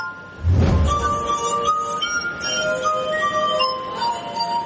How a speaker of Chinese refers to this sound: 他的乐器是大大小小装了水的高脚杯，他用指尖在杯口滑动，弹奏出各种动听的音乐。